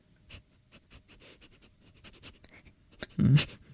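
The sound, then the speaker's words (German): A person imitates a dog sniffing with a rapid run of short, breathy nasal puffs in an uneven rhythm, ending in a louder, longer snort. Fairly quiet, with no talking. “Hundeschnüffeln.”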